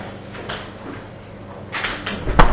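A door being closed: a couple of seconds of soft scraping and shuffling, then a single sharp, fairly loud knock as it shuts at the very end. No one speaks.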